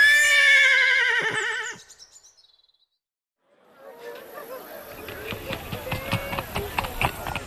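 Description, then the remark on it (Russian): A horse lets out a loud, quavering whinny, then after a brief pause hooves start up and build into a steady, rhythmic gallop as the horse is ridden off, carrying on to the end. “А ну, полезай на коня.”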